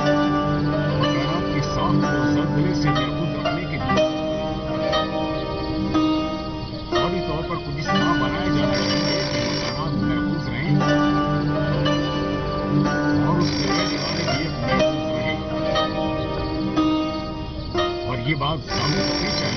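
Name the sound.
telephone ringing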